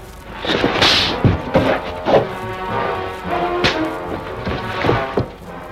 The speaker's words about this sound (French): De magistrales paires de gifles ont étendu Thérèse sur le tapis